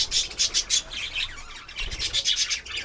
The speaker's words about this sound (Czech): tady máme ve vedlejší voliéře agapornisy, papoušky. A krásně štěbetají.